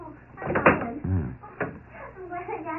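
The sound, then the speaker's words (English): A door is eased open just a little, with a short creak and soft clicks, while muffled voices murmur in the background. “Open the door a crack.”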